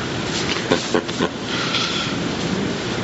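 Rain falling outside makes a steady, even hiss for about three seconds, with a few slightly louder patters early on. No one speaks.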